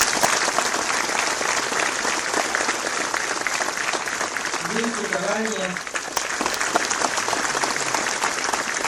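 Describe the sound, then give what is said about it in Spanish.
A large crowd applauds steadily and loudly for the whole stretch, a dense wash of clapping with a brief voice rising above it midway; the applause is for the municipalities, on 17 November. “a las autoridades de la Junta del Buen Gobierno, a los municipios, un aplauso el 17 de noviembre.”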